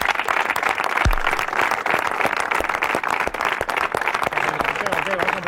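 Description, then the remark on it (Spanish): Teammates of footballer Óscar de Marcos applaud him warmly as he announces his departure at the end of the season, a dense, steady patter of many hands clapping at once that holds at an even, fairly loud level throughout, with a few sharper claps and faint voices mixed in. “Bueno, pues ahí estaban los aplausos de los compañeros de Óscar de Marcos al jugador rojiblanco cuando les anunciaba su despedida a final de temporada.”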